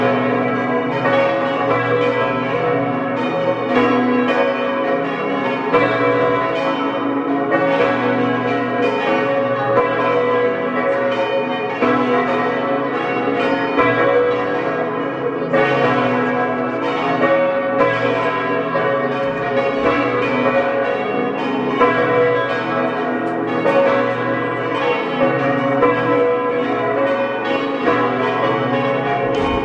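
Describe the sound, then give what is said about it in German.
Several bells of the parish church of St. Alban in Matrei in Osttirol, Tirol, peal together at 12 noon, continuously, a dense, loud, overlapping ringing with rich resonant overtones that swells steadily and never pauses, with no voices present. “Sie hören die Glocken der Pfarrkirche zum heiligen Alban aus Matrei in Osttirol.”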